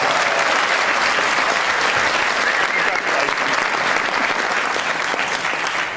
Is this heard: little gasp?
no